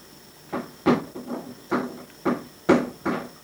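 A little girl bangs on a door: about seven dull, hollow thumps land at an uneven, loose rhythm, each moderately loud with a brief ring after it, and no voices in between.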